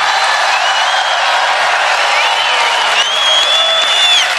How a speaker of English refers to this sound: And the crowd goes wild. Lovely.